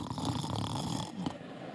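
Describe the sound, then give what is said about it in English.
A man's voice imitates a single drawn-out snore, a raspy rumble lasting over a second before cutting off into quiet. “He's never snoring.”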